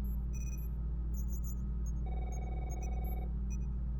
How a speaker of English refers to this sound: Do I hear a telephone? That's not the bridge phone. Where is it? It is sounding muffled.